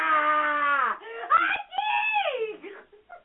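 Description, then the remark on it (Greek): A high, strained human voice screeches and wails in long drawn-out cries, loud, with a few choppy breaks between bursts, a scream recorded by a phone and played back. “αυτό το τηλέφωνο σας δίνει το δικαίωμα να τσιρίξετε και να φωνάξετε και το ηχογραφεί.”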